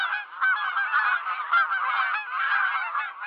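A dense flock of geese honks continuously, many overlapping nasal calls blending into a steady, loud chorus with no pauses and no voices.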